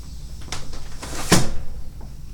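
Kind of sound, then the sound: household object, window being closed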